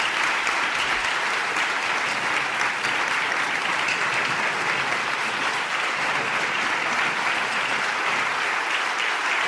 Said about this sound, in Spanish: Tras estas emotivas y sentidas palabras, el aula 6 se llenó de enérgicos aplausos.